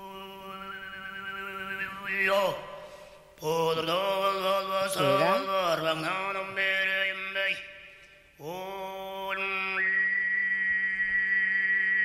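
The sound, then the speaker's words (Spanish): A single voice sings overtone throat song: a steady low drone with a bright, flute-like whistling tone gliding above it, rising and falling in melodic sweeps, with two brief breath pauses. The whistle is not a flute but made by the same singer's throat. “Es el propio intérprete que es capaz de cantar y al mismo tiempo hacer la flauta, todo con la misma garganta.”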